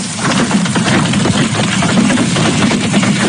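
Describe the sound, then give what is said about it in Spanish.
Hail pelting down in the town of Talarrubias, falling from a storm and damaging crops and farms, in a loud, unbroken roar: a dense, rapid clatter of countless small impacts over a steady low rumble, with no voices. “Así, por ejemplo, sonaba el pedrisco en la localidad de Talarrubias y que afectaba a cultivos y a diferentes explotaciones agrarias en una mala época para estos fenómenos por las diferentes campañas que se están desarrollando.”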